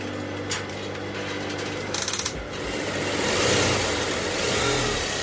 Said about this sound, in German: Die Nähmaschine rattert. Für den jungen Modedesigner David Ojeng ist sie wie ein Instrument, auf dem er seine Mode spielt.